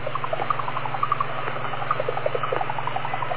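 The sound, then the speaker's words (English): A radio interference signal on the 40 amateur band, received on a radio rig, bubbling like a drip coffee percolator: rapid, irregular pops and blips over a steady low hum and hiss, continuous and fairly even in level, with no voices. “It sounds like a drip coffee percolator.”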